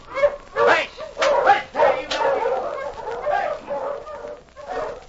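A dog barks and yips in a rapid, excited string of bursts, fairly loud, the sharp barks at the start giving way to a steadier run of yapping.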